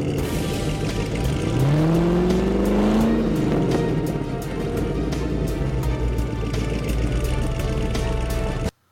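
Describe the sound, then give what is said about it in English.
A 2012 Camaro ZL1 muscle car engine revs hard, its deep rumble climbing in pitch over a couple of seconds before settling back into a loud, steady idle, continuous until it cuts off. “But what we haven't really gotten is a good solid sound bite of it, so here we go.”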